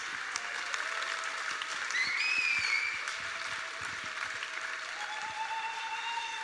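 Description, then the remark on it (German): An audience applauds a speaker after a talk in a dense, steady wash of clapping that swells briefly midway, with a few thin whistle-like tones rising above it. No voices stand out. “Der Applaus ist durchaus berechtigt, ihr Lieben.”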